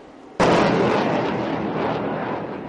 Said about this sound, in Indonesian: 20 kapal perang termasuk fregat dan kapal perusak menembakkan peluru untuk mencegat dan menumpas serangan di lepas pantai timur laut Taiwan